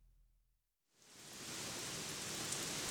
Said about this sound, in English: Wow, look. It's raining cats and dogs again. I hate this weather.